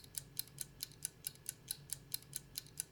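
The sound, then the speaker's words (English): A timer clock started for a 60-second round ticks steadily, with about twelve crisp, evenly spaced clicks at a brisk regular rhythm, fairly quiet, with no voices over it. “Okay, we're starting the clock.”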